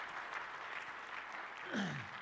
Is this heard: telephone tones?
no